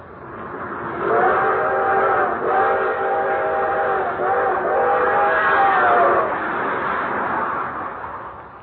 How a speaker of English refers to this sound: One thing he especially liked was the long, drawn-out whistle of the 20th Century Limited as she highballed it through the countryside.